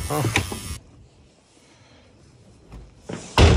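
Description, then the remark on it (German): A door is handled and pushed open Corona-style, in the Mitte district: a loud rustling, clattering burst, a quiet pause with faint hum, then another sharp, noisy burst as the door swings. “Corona-Style die Tür öffnen.”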